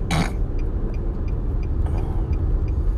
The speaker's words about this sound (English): Why? Oh, right. Today is Tuesday. I'm like, why is there so much traffic?